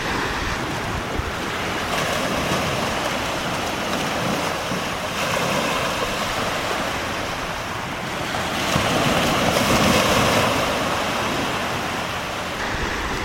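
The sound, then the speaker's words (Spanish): Sea waves break on the shore in a steady, rushing roar that surges louder a couple of times as each set rolls in; some wind noise, no voices. “El equilibrio y mi paz espiritual ya lo he encontrado, porque estoy aquí en contacto con la naturaleza, estoy en contacto con el mar.”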